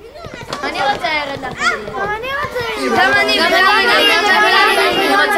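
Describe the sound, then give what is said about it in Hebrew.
A lively crowd of children chatters and shouts, many high voices overlapping, growing denser and more continuous toward the end, as a lengthening procession of children goes through a small Jewish town on the way to their teacher, Rabbi Leibel. “בצדי הדרך חלונות הבתים נפתחים לרווחה, יהודים מחייכים זה לזה, והנה שיירת הילדים מתארכת. אה, נור אמונה, איזה שמחה בעיירה.”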